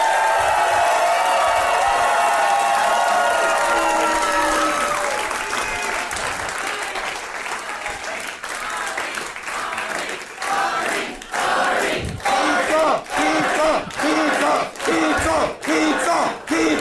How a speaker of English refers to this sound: And please give it up. The biggest round of applause you can muster for Arnie Niekamp.